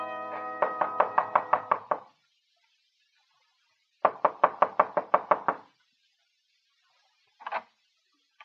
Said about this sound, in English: Only certain kinds of people knock like that. You ain't fat enough to be a bill collector.